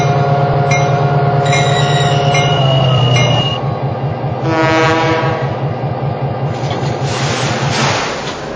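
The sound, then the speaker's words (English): The Southern Belle passenger train, bound for Kansas City, rumbles along the track with a steady rhythmic clatter of wheels, a loud sustained horn blaring over it near the start, the sound heavy throughout. “Kansas City on track number one. Train number one, the Southern Belle.”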